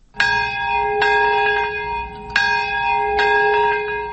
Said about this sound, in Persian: صدای زنگ ها و ناقوس ها همه ساله این را به یاد می دهند که در یگانه مورد حمله هسته‌ای در ژاپن بیش از 200 هزار تن جان دادند.